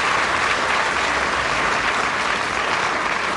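A dense, steady burst of audience applause, many hands clapping at once in a sustained, even roar that stays loud and full throughout without any voices standing out.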